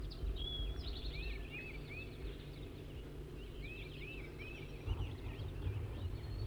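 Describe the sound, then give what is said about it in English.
A wild male bird, perched in a small serviceberry bush about 20 meters or less from a net, calls in two bursts of quick, high, slurred whistled notes, the phrase repeated after a pause, over a steady low rumbling background. “The wild bird is sitting here about 20 meters from the, or even less, from the net, just perched in a small serviceberry bush.”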